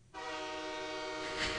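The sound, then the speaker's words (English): A train horn blares in one long, steady, harmonically rich, loud blast lasting about a second and a half, ending with a sudden low thump, played at a Buffalo Bills football game on third down. “And more importantly, too, every time I hear it's third down and the train horn starts blaring, I'm getting irrationally afraid.”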